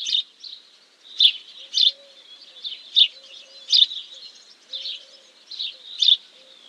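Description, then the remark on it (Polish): A house sparrow chirps steadily, with short bright bursts repeating every half second or so, fairly loud, over a faint low hum. No one speaks. “Wróbel domowy potrzebuje bowiem do życia prawdziwej wsi i niestety jego liczebność spada.”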